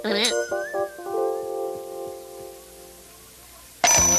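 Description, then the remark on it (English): A door alarm, set off by someone trying to steal the water, goes off with a quick flurry of bright electronic chimes, settling into steady ringing tones that slowly fade over a few seconds before a sudden loud burst of noise. “I installed an alarm on that door.”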